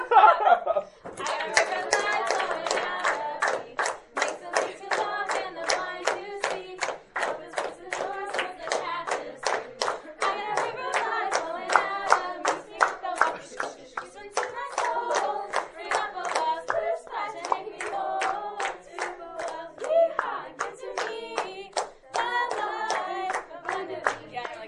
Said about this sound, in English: Clapping right.